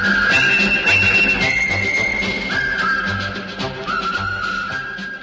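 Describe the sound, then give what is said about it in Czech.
A bright whistled march melody, the march from the film about the River Kwai, whistled at the Expo 1958 world exhibition in Brussels, runs steadily in the foreground, stepping from note to note over a loud, full band accompaniment with a regular marching beat underneath. “A dnes si ho bez ustání hvízdá na výstavě kdekdo.”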